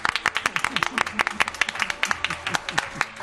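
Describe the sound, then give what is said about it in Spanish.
A crowd at an event in Córdoba applauds the people who have stayed late into the night, with dense, steady clapping that runs throughout, bright sharp claps layered together, while voices talk and call out underneath. “Que voy a empezar con un aplauso para la gente que está aquí aguantando a estas horas de la noche.”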